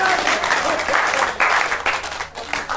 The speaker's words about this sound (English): They're clapping on this side as well now, so it's all right.